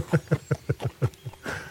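Horse hooves clip-clop in a quick, even rhythm of about seven clear beats, ending in a brief breathy rustle; no one speaks over them.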